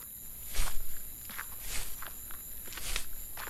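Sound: footsteps walking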